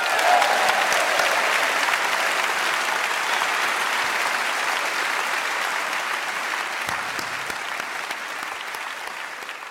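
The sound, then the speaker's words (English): Sustained audience applause for the panel at a live recording of I'm Sorry I Haven't a Clue for BBC Radio 4: a dense wash of many hands clapping at steady loudness for about ten seconds, tapering slightly toward the end with no voices over it. “A round of applause for yourself and for our fabulous panel.”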